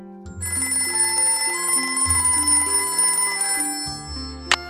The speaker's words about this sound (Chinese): 直到某一天，校长室的电话忽然响个不停。